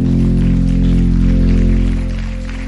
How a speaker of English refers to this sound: Come on, give Jesus a big hand clap.